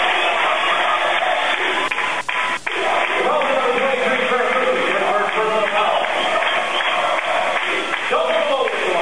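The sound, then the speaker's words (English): Kearney High fans at a high school basketball game keep up the trucking cheer, a steady, loud chant, their many voices blending into a dense, continuous roar with a muffled, radio-like tone throughout. “If you're a Kearney High fan, you may recognize the trucking cheer going on in the background as Kearney High will be trucking to the Bob, heading to the Bob Devaney Sports Center”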